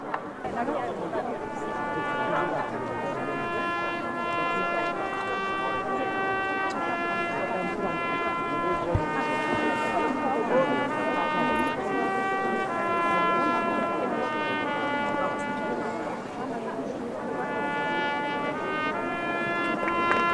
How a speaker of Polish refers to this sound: Dla teraz wszyscy możemy teraz odwrócić się do wieży i wysłuchać wspaniałej kolędy.